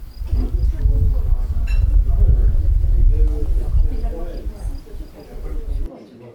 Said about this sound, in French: Des insectes. Des oiseaux. Mouches. Du vent. Grillons. Mouches.